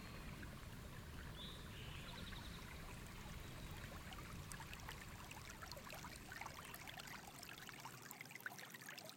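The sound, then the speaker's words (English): Cold creek water swirls and gurgles in a steady, unbroken flow at sunset, with small splashes and trickles rising from a soft rushing bed. It sounds gentle, with no voices. “A cold creek swirls, setting sun changes hue.”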